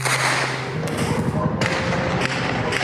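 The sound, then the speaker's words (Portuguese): Several distant gunshots from a police operation in Vila Cruzeiro, Rio de Janeiro, Brazil, heard from the regional hospital, crack out at irregular intervals: sharp muffled bangs spaced about half a second apart over a steady, noisy outdoor background. “Mais de 15 horas depois, o som dos tiros que aterrorizou os moradores ainda era ouvido do hospital da região.”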